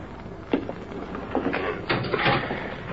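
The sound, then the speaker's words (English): A jail cell door is unlocked, then slides and clanks shut as a sheriff puts a prisoner inside, with a few rattling metallic knocks spread over a few seconds before a final heavier clang. No voices. “There's the door unlocked”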